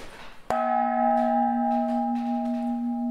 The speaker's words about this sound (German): Und die Glocke, die Sie hier sehen, ist die älteste Turmglocke, die wir haben in der Ausstellung, eine sogenannte Bienenkorbglocke, nach ihrer Form benannt. Ich finde, die hat einen sehr schönen Klang.